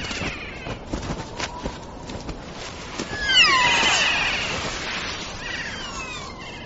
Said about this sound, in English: On these islands at the end of the world live some unique animals. Alpine parrots, called kia after their calls. Living higher than any other parrots, these are possibly the world's most playful birds.